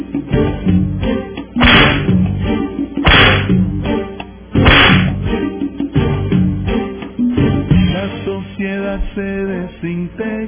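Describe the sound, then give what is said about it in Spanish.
Three sharp whip cracks snap out about a second and a half apart, loud, over a steady band playing underneath; the music carries on after the lashes stop. “Ojo, ahí atento, démosle los latigazos a los que están en esto, ¿verdad?”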